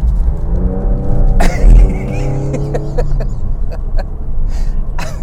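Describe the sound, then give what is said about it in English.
A car engine drones and revs, its pitch climbing and dipping as the vehicle is pushed hard through turns, with low road rumble and a few sharp knocks throughout. “Let me see if I can remember how to toss this car around here.”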